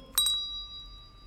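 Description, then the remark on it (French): Three small bells struck in quick succession, sounding the notes F, C and D, their bright metallic tones ringing on and slowly fading. Isolated, with no voices. “Trois cloches. Fa, do, ré.”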